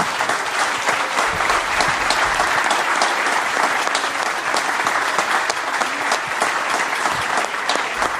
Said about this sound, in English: So let's give a round of applause for Craig and Tim.